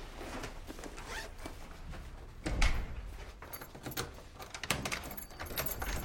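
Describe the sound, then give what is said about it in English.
A door in an apartment foyer opens with rustling, rattling handling noise and a heavier low thump partway through. Scraping movement follows as two women pass through and step down a few steps into a hallway leading to an apartment door. Moderately loud, no voices. “They enter a door and step down a few steps into a hallway up to an apartment door.”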